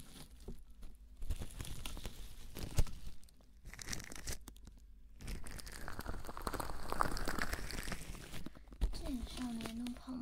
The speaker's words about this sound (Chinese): 我们把保鲜膜整理一下。我从来没有这样玩过，所以是第一次哦。